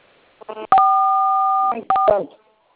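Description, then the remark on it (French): Telephone keypad tones dialing the code star 440 hash: a long steady two-pitch beep held for about a second, then a couple of quick short beeps, with brief snatches of a voice speaking in between. “Mais si toutefois il y a un compte, quand vous composez le code, il y a le menu qui va s'afficher.”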